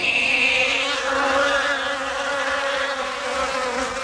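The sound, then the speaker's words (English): A voice imitates a buzzing flying insect to illustrate the vowel 'ah' turning into 'eh', holding one steady, nasal drone for about four seconds. It is fairly loud, with no talking and no pauses. “Somewhere in the mix of geography, the soft A sound, like ah, became eh, right? You know, like a buzzing insect.”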